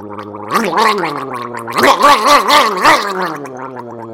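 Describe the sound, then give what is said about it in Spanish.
A voice makes a loud gargling throat noise as a vocal warm-up, a sustained tone with a wobbling, warbling pitch and rattly bursts, no words spoken. “Calentamiento de las cuerdas vocales.”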